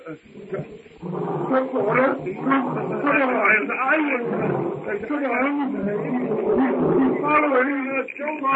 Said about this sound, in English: Numa's roar carries to Tarzan as he sits on a low-hanging branch watching the hut. It's the roar of the king beast as he crouches, tawny belly hugging the ground before the steely muscles propel him in terrific force upon his helpless prey.